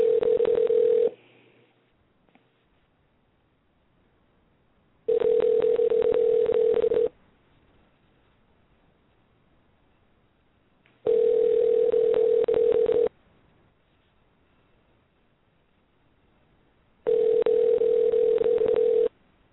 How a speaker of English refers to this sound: Big Vito, answer the phone.